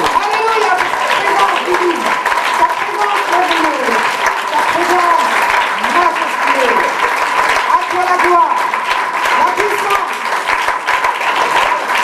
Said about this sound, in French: Alléluia, alléluia. Louons le Seigneur, applaudissons le Seigneur.